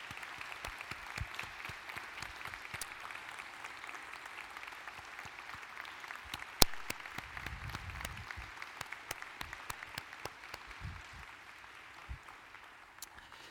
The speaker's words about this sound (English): So can we give a clap offering to God for these folks?